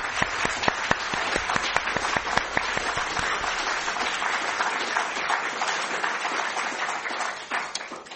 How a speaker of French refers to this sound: Merci. Il est temps de remercier nos deux intervenants en les applaudissant.